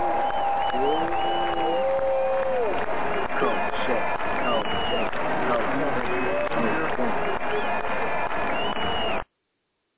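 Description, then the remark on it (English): A loud, steady roar of crowd screaming and cheering, with shrill individual yells and whoops rising over the din, sustained for about nine seconds before cutting off abruptly. “That's the Rocky Balboa screams right there.”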